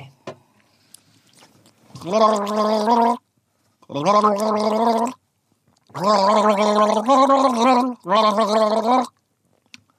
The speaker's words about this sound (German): Und dann gurgel dann danach eine Melodie für dich.